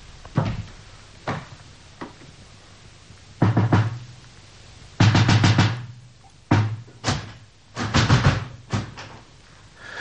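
A door handle is rattled and jerked against the locked door of an upstairs room in several bursts, some quick clattering clusters and some single thuds, loud with pauses between attempts.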